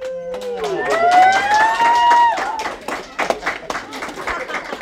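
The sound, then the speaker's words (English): A crowd of fifth and sixth grade students in a school hall whoops and cheers with rising shouts, showering guests with applause and construction paper confetti from homemade poppers, followed by scattered clapping and chatter echoing in the hall. “Instead, they walked through a hall of cheering students.”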